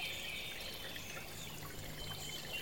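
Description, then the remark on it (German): A steady, gentle trickle of water flowing in a brook runs continuously, soft, with a bright hissing texture and no voices. “Und schau, wie es im Bach einfach davon schwimmt.”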